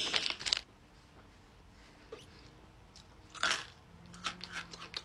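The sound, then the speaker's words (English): Crisp crunching of brittle freeze-dried Skittles candy being eaten, with a loud burst of bites at the start, a quieter pause, then another few sharp crunches and a scattered flurry of crackles near the end. “Wait, are these literally crunchy?”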